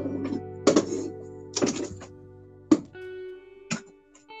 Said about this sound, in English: Hold on, I'm gonna close my door.